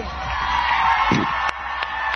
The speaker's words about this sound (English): Vice President Kamala Harris, supporters cheering for Republican Liz Cheney, who campaigned with Harris in Ripon, Wisconsin on Thursday.